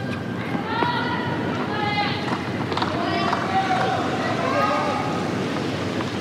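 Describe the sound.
Quick, light running footsteps of a ball boy resetting himself at the side of the court patter across a hard tennis court during a Djokovic versus Fonseca match, beneath a steady wash of crowd murmur, with indistinct voices audible throughout.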